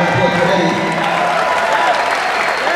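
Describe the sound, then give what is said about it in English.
Steady applause from a large theater audience on a live concert recording, a dense wash of clapping that stays loud and even throughout, with faint murmuring voices mixed in. “I don't know what it is, but the quality of the recording, that applause sounds like I'm watching PBS.”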